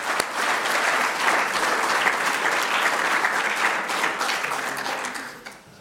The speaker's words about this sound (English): Great. Good job out in the kitchen. I want to give you and your team a special applause